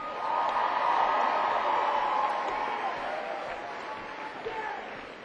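A crowd applauds steadily for about five seconds, a dense wash of clapping that stays loud before easing off slightly toward the end, with some indistinct cheering mixed in: a concert audience at the 9:30 venue applauding a musician.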